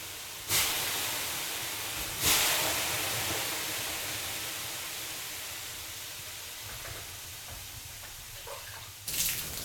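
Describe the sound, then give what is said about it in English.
Water thrown onto hot stones in a sauna hisses loudly in three sharp bursts, each swelling into a steady steam hiss that slowly fades. No one speaks. “That's when you throw the water with the hot stones.”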